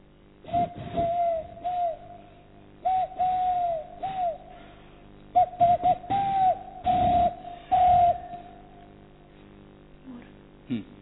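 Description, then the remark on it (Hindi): A voice imitates the cooing of a ghughi, a small dove, with a series of soft, hollow hooting calls in uneven bursts, some breathy and noisy. “एक कबूतर जी, थोड़ा छोटा एक पंछी होता है घुगी”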